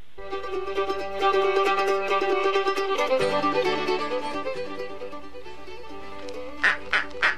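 Nasal, honking duck quacks run over a steady low hum, then three short, loud quacks burst out in quick succession near the end.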